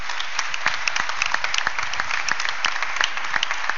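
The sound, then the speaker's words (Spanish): Sustained audience applause with dense, steady clapping filling the whole stretch, individual sharp claps popping out above the crowd's wash of sound, loud and continuous with no voices on top. “¿Nos damos todos un fuerte aplauso, eso grande, fuerte, fuerte, grande?”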